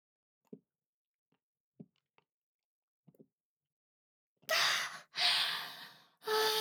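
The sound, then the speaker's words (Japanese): Several soft, spaced gulps of someone drinking chilled beer after a toast, followed by loud, breathy, satisfied exhales, like an "ahh" after a cold drink. No talking. “じゃあ私たちも同じビールで乾杯しましょうか。”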